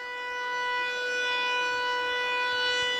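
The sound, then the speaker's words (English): A big siren goes off at a ballpark during a baseball game, wailing continuously and holding a steady, harmonic-rich tone that swells slightly in loudness over the few seconds, with no voices heard. “So a big siren has gone off here.”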